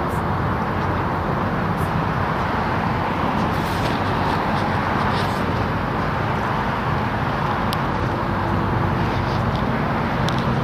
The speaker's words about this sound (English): I used to reverse my course every so often just to keep the path fresh, but the noise was too much. I just couldn't deal with it. Trying to walk and talk over the noise of the traffic was tedious.